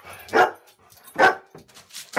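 A dog barks three times in sharp, evenly spaced bursts, fairly loud, with short quiet gaps between each bark and no one talking.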